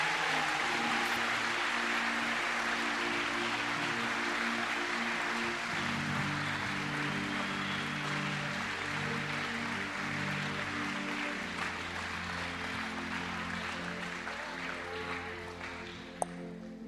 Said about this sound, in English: Let's just give these people amazing applause as well. Very proud of you.